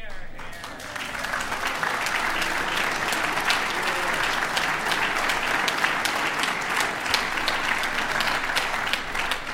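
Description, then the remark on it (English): An audience claps steadily for the whole stretch, a dense, even patter of many hands at a fairly loud, constant level, with no voice standing out above it, applauding a party speaker's statement about wanting far more women as elected representatives across Northern Ireland. “And it shouldn't be just the women who are clapping that statement.”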